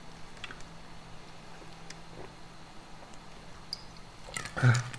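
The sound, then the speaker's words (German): Someone takes a quiet sip from a drink, with faint wet mouth clicks and a short, louder slurp or swallow near the end. No one speaks. “Ja, ich muss mal kurz einen Schluck trinken.”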